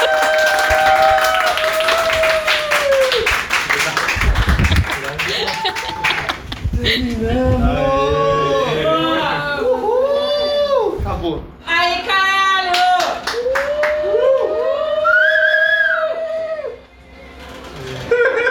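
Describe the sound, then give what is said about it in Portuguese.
A round of applause with steady clapping, mixed with loud whooping and howling voices and some talk, everything energetic before it fades near the end. “Conseguimos! Uma salva de palmas!”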